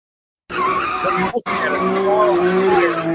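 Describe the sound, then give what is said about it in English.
Car tires squeal loudly and continuously as a vehicle spins donuts in a street in Oakland, California, a sustained high screech with a brief cut near the middle. “People in the street, black people, tires, the tires just spinning around in a circle, in a circle, in a circle.”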